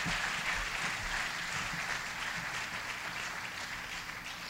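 Steady crowd applause, many hands clapping together in a dense, continuous patter that holds at an even, fairly loud level for several seconds with no talking.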